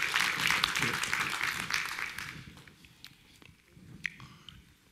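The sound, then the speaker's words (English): A crowd claps its hands for the Lord in a dense burst of applause that fades out after a couple of seconds, leaving a few scattered claps and a low murmur. “Come on, give the Lord a hand clap, amen.”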